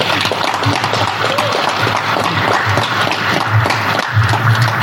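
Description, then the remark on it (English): ZANU-PF officials applaud Emmerson Mnangagwa's declared re-election as President of Zimbabwe, with dense, continuous clapping holding at a loud, even level throughout and no speech breaking through. “Those are ZANU-PF officials applauding Mnangagwa's re-election.”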